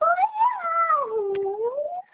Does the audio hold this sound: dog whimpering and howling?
yes